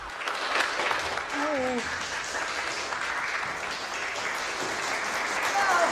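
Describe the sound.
Steady hand clapping from a small crowd fills the whole stretch, fairly close and even in loudness, with a few voices briefly calling out over it.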